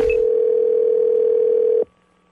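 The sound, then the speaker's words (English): A single steady ringback tone over a phone line as a call is placed to a man advertising a month of free car washes with every home purchase, holding at an even pitch for nearly two seconds before cutting off, leaving a faint hiss. No one speaks. “So I give him a call as somebody who's willing to just buy a house because I really need a car wash.”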